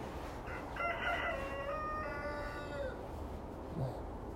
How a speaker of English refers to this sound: Cock-a-doodle-doo.